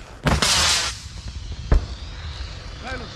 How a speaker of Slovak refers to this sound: Výstrel!